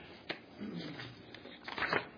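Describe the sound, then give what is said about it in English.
Stuck-together sheets of paper, cut with a paper cutter, being pulled apart: a sharp crackle at the start, soft rustling and scraping, then a louder burst of papery crinkling near the end. “I cut these papers sometimes with a paper cutter and they have a tendency to bind.”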